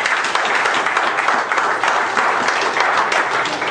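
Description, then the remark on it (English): A crowd applauds steadily, dense overlapping clapping at a fairly loud, even level that holds without a break for several seconds. “Give a good godly mom a hand of applause.”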